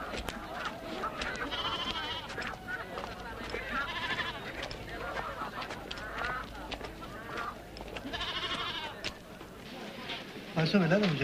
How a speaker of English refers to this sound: Later, cattle and goats are led through a market street